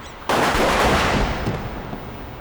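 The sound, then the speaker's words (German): A sudden loud, deafening burst of gunfire erupts in a parking garage and rolls on in a dense, reverberant roar that slowly fades, echoing through the enclosed concrete space. “Die Schüsse halten ohrenbetäubend in dem Parkhaus.”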